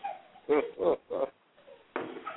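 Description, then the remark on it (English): A dog barks three times in quick, evenly spaced bursts, then gives a longer, rougher bark after a short pause. The barks are moderately loud and mid-pitched, with no talking. “I got the dog barking, baby.”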